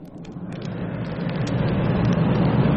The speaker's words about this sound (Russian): Оживленный московский перекресток.